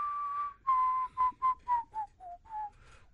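A person whistles a tune up close, a series of clear, sustained and short notes stepping gradually downward in pitch, with no talking over it.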